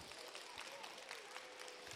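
An audience claps steadily throughout, a dense, even patter of many hands at moderate loudness, with no voices rising above it.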